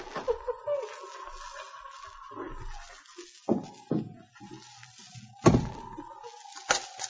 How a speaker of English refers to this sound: I'll unbar the door.